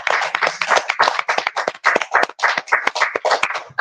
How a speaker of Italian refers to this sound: Applausi.